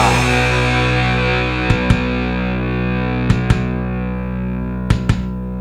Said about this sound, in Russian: Остается только дрожать и слушать, как стучит мое сердце.